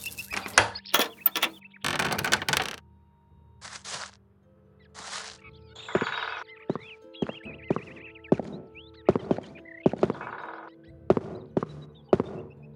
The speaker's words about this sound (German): Ich hatte Velaya zu der kleinen Höhle geführt und schloss nun die Türe mit Orlands Schlüssel auf.